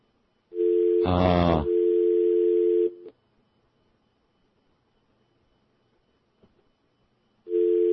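A steady telephone dial tone on a line that has just been fixed hums for a couple of seconds, briefly overlaid by a louder burst, then cuts to silence before the tone starts again at the end. No one speaks.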